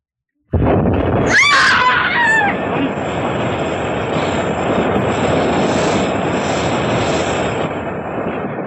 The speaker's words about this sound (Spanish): ¡Una explosión! ¡Quieto, Solín! ¡Se me viene la montaña encima!